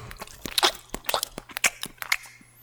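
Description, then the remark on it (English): Crisp crunching as a communion wafer is chewed, with a quick irregular series of sharp bites and crackles over a couple of seconds and no voices. “They're chewing Jesus according to their beliefs.”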